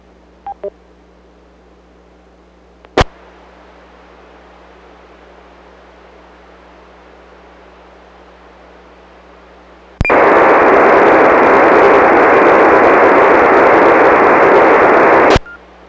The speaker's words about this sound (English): I had another station trying to make the repeater. You were all down in the noise.